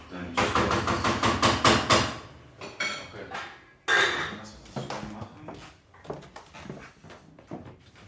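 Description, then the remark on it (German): Kitchen clatter of pots and dishes as a man cooks at home: a quick run of loud knocks and clanks for about two seconds, then scattered bangs and clinks, with some murmured talk underneath. “der kocht gerade.”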